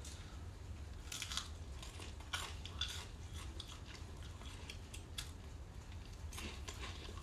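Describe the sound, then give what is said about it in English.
Crunching as someone bites into a crouton topped with melted cheese and chews, a series of sharp crackly bursts spaced irregularly over a steady low background hum, with no talking. “Maybe not the crunchiest croutons, but that's okay. Get a small piece and actually try it.”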